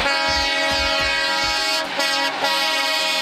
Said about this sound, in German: Im Laufe der Zeit wurden die Hupen immer größer und lauter. Heutzutage sind die lautesten Hupen an LKW angebracht. Und die sind schon richtig laut.